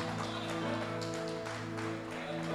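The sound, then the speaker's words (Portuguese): A church audience claps steadily in praise of the name of the Lord, a dense, continuous patter of many hands over a sustained keyboard chord that hums underneath throughout. “Aplaude o nome do Senhor, porque vale a pena investir numa alma.”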